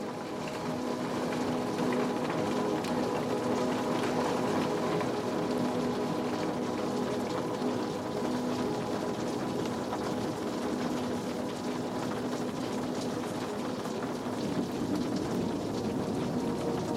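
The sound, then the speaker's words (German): Steady, soft rain patters continuously, a dense even wash of drops with a faint low rumble underneath. No voices; the sound stays level and calm throughout. “Das leise Prasseln des Regens begleitet dich wie eine sanfte Melodie.”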